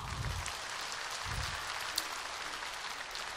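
A crowd applauds steadily, with dense, even clapping that holds at a constant level for a few seconds. Low thumps sound briefly underneath, and no one speaks.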